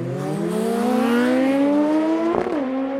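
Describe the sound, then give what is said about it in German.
A motorcycle engine revs loudly and alone, its pitch climbing steadily for a couple of seconds before a quick break and drop, like a gear change, then pulling on. “Der eine verbindet damit etwas, was ihn erinnert an vielleicht die Jugend, an ein tolles Motorraderlebnis.”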